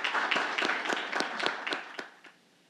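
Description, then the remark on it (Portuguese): An audience applauds at the close of a solemn ceremony in a dense, crackling burst of many hands clapping, with a few sharper individual claps standing out, then the applause thins and fades to quiet over the last second. “Declaro encerrado este ato solene com uma salva de palmas para todos os presentes.”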